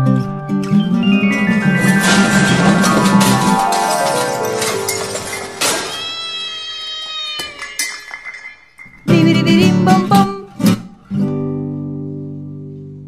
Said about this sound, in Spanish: La canción que acabamos de escuchar se llama … y es de la cantante … de Argentina